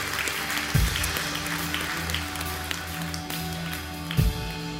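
An audience at a morning church service claps together for the Lord in sustained applause, a dense wash of many hands with steady low tones underneath and a couple of brief louder swells.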